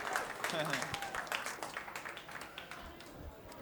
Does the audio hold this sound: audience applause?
yes